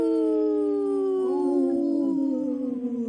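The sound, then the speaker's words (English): Several human voices howl together in imitation of a wolf pack on the radio show Native Roots Radio Presents I'm Awake, loud sustained tones overlapping and sliding slowly downward in pitch over about three seconds. “Howl, you guys. That was awesome.”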